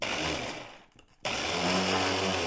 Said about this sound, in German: Das klingt jetzt sehr nach einem Mixer, den brauchen wir heute vermutlich auch, denn sie stellt uns ein hippes, gesundes Getränk vor. Ein Spargel-Smoothie ist das Ganze und zwar mit Microgreens.